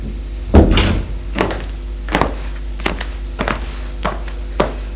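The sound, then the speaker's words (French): A door in a small tiled hallway of a house is opened with a heavy clunk near the start, followed by a series of lighter knocks and clicks spaced unevenly over a low steady hum, fairly quiet. “Puis, il va ouvrir une porte dans le couloir.”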